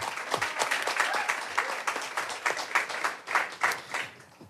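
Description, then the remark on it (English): An audience applauds Juan Davis, chief creative officer at KCT, many hands clapping in a dense, crackling wash that holds a fairly even loudness for several seconds with no voices over it. “So give a round of applause to Juan Davis.”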